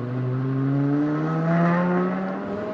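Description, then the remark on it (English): A V10 car engine with a big triple exhaust at the back revs up loud, its throaty exhaust tone climbing steadily in pitch over a few seconds, with no one talking. “Got the big tri-exhaust on the back. This is a V10, right?”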